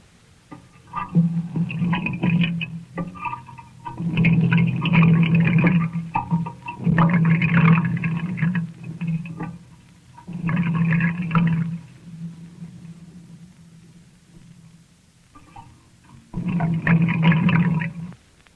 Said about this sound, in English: The way we made that one was to run some water through a piece of ordinary pipe and let the sound microscope listen to it.